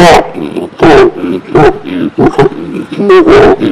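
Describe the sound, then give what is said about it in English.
A person imitates a frog croaking with a string of loud, raspy, throaty bursts, about seven uneven croaks over a few seconds, each a gravelly voiced grunt with short gaps between. “The frog is going...”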